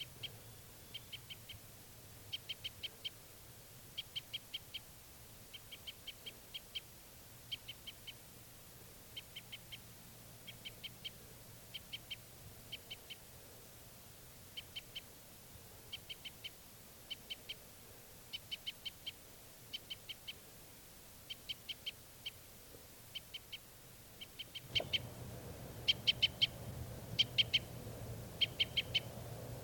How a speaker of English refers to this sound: Birds flying over toward the net again.